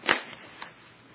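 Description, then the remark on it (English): A quick, airy whoosh of a fan bearing an inscription by a Zen master, swung sharply through the air, followed about half a second later by a fainter second swish, then quiet. “To begin with, fan is a noise. And this doesn't make the noise fan, but just whoosh.”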